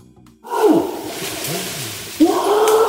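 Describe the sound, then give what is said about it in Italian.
A loud, drawn-out guttural orangutan call with rough, wavering tones that dip and swell, ending in a second harsh burst; no talking over it. “È un po' che non sentivamo l'orangutan ingrifatissimo.”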